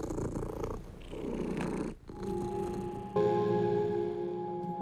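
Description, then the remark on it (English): A cat purrs in a steady, rumbling rhythm for a couple of seconds while its fur is combed on a balcony, relaxing; then the purring gives way to sustained, ringing tones that hold to the end. “And the cat would just, you know, be purring and relaxing.”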